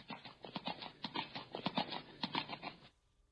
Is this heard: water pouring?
no